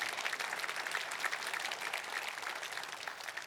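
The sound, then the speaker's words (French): An audience applauding God, a dense wash of many hands clapping at an even, sustained loudness for several seconds with no talking over it. “Est-ce qu'on peut applaudir notre Dieu?”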